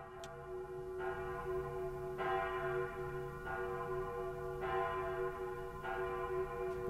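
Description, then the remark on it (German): A cast bronze church bell from a later period tolls steadily, with fresh strikes about every 1.2 seconds over a continuous, richly layered ringing hum. The sound is clear and sustained, with no voices. “Jetzt haben wir eine aus Bronze gegossene Glocke, die aus der späteren Zeit.”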